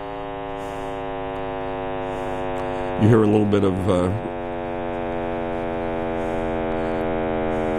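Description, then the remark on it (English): A sonified cosmic microwave background, the sound of the universe, plays as a deep, steady, buzzy drone rich in stacked harmonics. Its frequency drops as the universe expands. It holds at an even loudness while a man speaks briefly over it midway. “Okay, you're hearing a drop in frequency as the universe expands and becomes more of a bass instrument, and you're hearing it get louder and louder as the cosmic microwave background is building up to a crescendo.”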